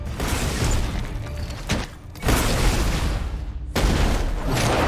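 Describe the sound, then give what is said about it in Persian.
A loud explosion roars with dense rumbling and crackling debris, briefly easing twice before surging back, filling the whole stretch with no voices. “اون انفجار مقدار قابل توجهی از انرژی رو مصرف کرد.”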